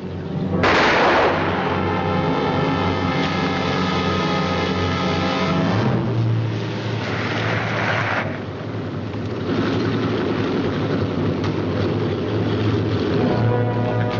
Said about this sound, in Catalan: Strasser has been shot.